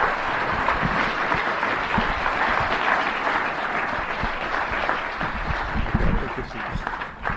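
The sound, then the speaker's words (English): A large audience at the Museum of the Moving Image in New York City applauds Tim Burton steadily, a dense, continuous wash of many hands clapping that stays loud and even throughout, with scattered sharper claps and faint murmurs underneath. “A lot of people saw all your movies, so this applause is for an amazing body of work.”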